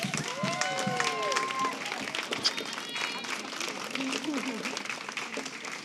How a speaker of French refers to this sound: je demanderai à tout le monde de lui accorder une grande main d'applaudissements.